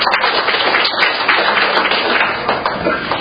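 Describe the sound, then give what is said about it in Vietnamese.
A crowd claps together in a steady, dense round of applause, loud and sustained throughout with no pauses, the many overlapping hand claps blending into a continuous wash of sound. “Đây, hay, cho một tràng pháo tay thưa anh chị em.”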